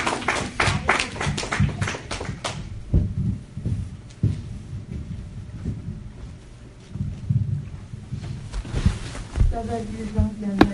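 An audience claps its hands, with a burst of quick, overlapping claps at the start that thins out into scattered claps, while voices murmur underneath.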